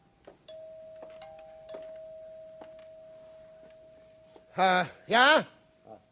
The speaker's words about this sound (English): And the doorbell rang. It's them.